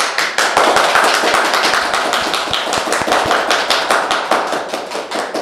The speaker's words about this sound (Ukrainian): Ми тут всім плескаємо, незалежно від того, хто сидить в кріслі переді мною.